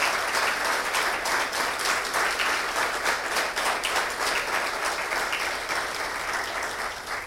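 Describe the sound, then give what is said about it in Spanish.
A crowd applauds the Bariloche town councillors who approved the emergency, clapping steadily for about seven seconds, many hands in a dense, even wash of sound that stays loud throughout and tapers only slightly at the end. “Primero, antes de todo, yo quiero darle un fuerte aplauso a los concejales que los otros días aprobaron la emergencia y les agradezco de corazón la actitud que estuvieron con nosotros.”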